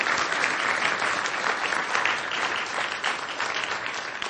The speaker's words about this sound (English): So let me stop there and take your questions. Are we doing questions from the floor? All right. A round of applause, I think, for this talk.